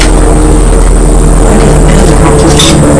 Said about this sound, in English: Oh, it is, isn't it? Can you see it? Yes, I can. Can you? I can't for the building. Oh, yes, wow. Where do you think that's going to? That's a police helicopter. Is it a police helicopter, or do you think it's being naughty?